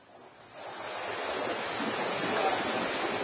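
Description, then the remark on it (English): Broad, steady rush of ocean waves at sea, heard aboard a sailing ship, swelling up after a softer start, with a wind-like hiss over the water and no voices. “Imagine you've run away to sea on a sailing ship.”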